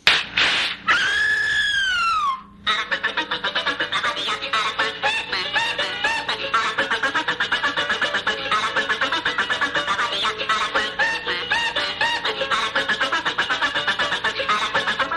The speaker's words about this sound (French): oui, c'est vrai, je vous ai amené aussi la toune de l'oiseau qui tape sur les nerfs parce que la semaine passée, ça n'a pas fonctionné. Alors, je vous mets ça.